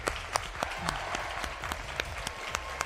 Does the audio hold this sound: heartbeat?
no